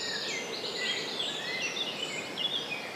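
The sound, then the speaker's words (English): Birds sing in the woods, several high, thin whistles and chirps overlapping continuously over a soft steady hiss, with no talking. “So it's quite important for me to shut up and for you just to sit and listen and enjoy the bird.”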